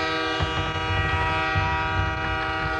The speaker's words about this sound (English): That's exactly what will happen. The train wreck.